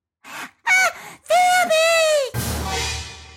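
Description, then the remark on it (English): A woman, the character Weena, lets out a few short, sharp gasping cries, then a long, loud, high-pitched scream that breaks off into a rough, noisy rush of sound, in a wooded place about a mile from the community. “Suddenly, Weena screamed.”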